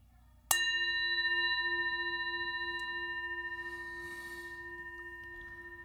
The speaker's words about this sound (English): Start and end with the bell.